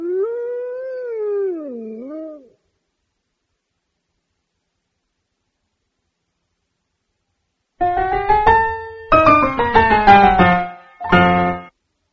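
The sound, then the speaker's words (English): A single long, wavering wolf howl rises and falls, followed by several seconds of silence, then a cluster of shorter, overlapping howling cries with no one speaking. “The wolf ate all the sheep.”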